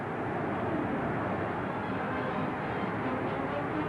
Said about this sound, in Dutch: Als het aan het publiek ligt, zeker niet. Luister hoe de Nederlanders worden aangemoedigd.